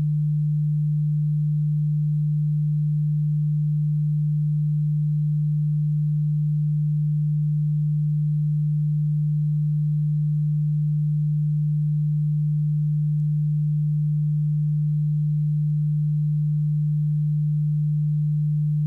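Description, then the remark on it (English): A steady, low-pitched pure sine tone hums continuously at an even volume for the full duration, with no other sounds or voices present. “In your right ear, I am going to play a frequency of 150 Hz.”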